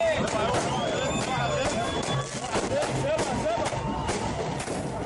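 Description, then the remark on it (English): A dense crowd of well-wishers clamors outside a military hospital in Cairo on a Saturday afternoon while sharp cracks and pops of the firecrackers they launch burst repeatedly at irregular intervals, some loud, all layered over the steady roar of many voices. “A crowd of well-wishers launched firecrackers Saturday afternoon outside the military hospital.”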